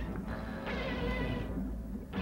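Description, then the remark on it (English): A turtle-cat game character lets out cat-like meowing, a drawn-out, wavering whine with bright harmonic tones, fairly loud over a steady background of game sound. “He sounds like a cat.”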